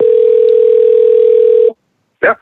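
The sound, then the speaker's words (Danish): A steady, loud telephone dial tone of an outgoing call placed from a radio studio with a hidden number holds a single pitch for nearly two seconds, then cuts off into silence before a brief voice answers at the end. “Vi ringer for hemmeligt nummer, når vi ringer for sådan en radiostudio.”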